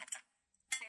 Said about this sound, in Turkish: O dın sesi spell check hatası veriyor orada.